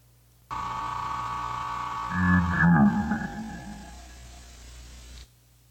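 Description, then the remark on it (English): A quiz show buzzer sounds as one long, steady electronic drone lasting about five seconds. Partway through, a brief louder burst overlaps it, and then the buzzer cuts off abruptly. “He has to have completed the answer, which was Egypt, before the buzzer finishes sounding.”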